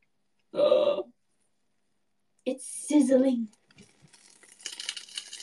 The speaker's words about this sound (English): It's sizzling, guys. Oh my God. It's sizzling! It's sizzling!